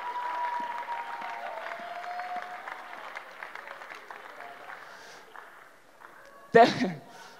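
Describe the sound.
A crowd claps steadily for several seconds, the applause thinning out toward the end, with some voices mixed in and a sudden loud vocal burst just before it finishes.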